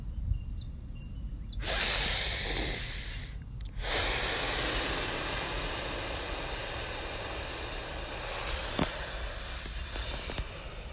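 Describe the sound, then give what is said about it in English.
Slow, deep breaths: one airy inhale-like rush, a brief pause, then a long, steady, hissing exhalation that carries on for several seconds with no talking. “going to visit nature, and just breathing with her, simple life, simple awareness.”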